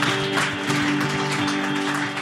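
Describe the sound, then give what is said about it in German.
An audience at a church service claps in steady, dense applause for God and the band for about two seconds, with a sustained musical tone ringing underneath the clapping and no talking. “Lass uns Gott noch einen Applaus geben und der Band gleich mit.”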